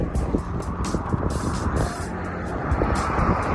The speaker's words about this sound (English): Cars are flying past on their way to the airport. It feels difficult and somewhat dangerous to be hitching on the side of a dual carriageway.